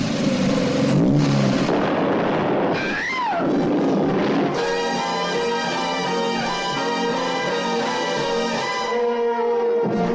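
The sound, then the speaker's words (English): A racing car engine roars and revs up loudly, pitch sweeping upward in a rising whine before settling into a sustained high, harmonic-rich drone, with no one speaking. “Now, just give her the gun.”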